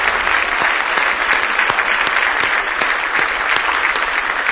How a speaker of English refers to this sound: Give our Lord Jesus a big hand clap of praise tonight.